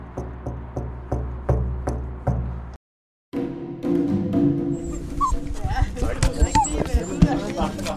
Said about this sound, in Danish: En halv time senere hilser en meget glad lille hvid hund os velkommen.